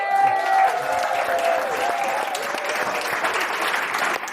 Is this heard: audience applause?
yes